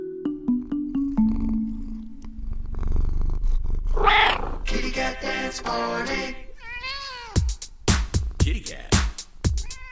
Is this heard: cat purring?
yes